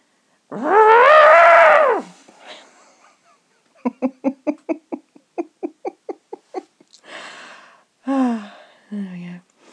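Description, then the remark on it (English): A voice imitates an elephant trumpeting: one loud, sustained, wavering high-pitched blare, followed by a rapid run of short, breathy, laugh-like bursts and a couple of softer voiced sounds. “And an elephant trumpets. And this is my elephant sound.”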